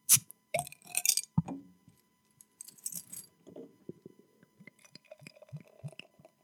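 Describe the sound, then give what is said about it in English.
A few sharp metallic clicks and a glassy clink as a bottle cap is pried off a triple-style beer with coriander, followed by a stretch of soft, uneven gurgling and splashing as the beer is poured. No one speaks. “With that prologue, let's crack this baby open.”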